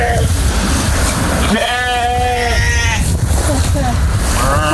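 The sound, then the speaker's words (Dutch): A sheep bleats loudly, a wavering drawn-out call lasting about a second, with more faint bleats and steady background noise around it. “En wat een mooie schapen heeft hij bij.”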